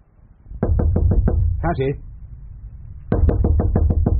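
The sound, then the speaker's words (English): Two loud bursts of rapid knocking on a closed door, about five sharp raps, then after a short pause roughly seven more, with a brief voice sounding in between. “Open this door at once.”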